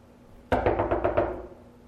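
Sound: knocking on a door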